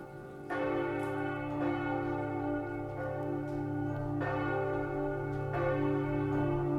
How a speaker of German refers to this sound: Feierliches Glockengeläute läutet die Sequenz ein.